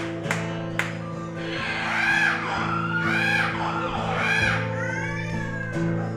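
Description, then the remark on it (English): Several voices scream in long, wavering, rising-and-falling wails, the screams of the damned, over a steady low hum. The cries overlap continuously for about six seconds at a fairly loud level. “Screams of the damned.”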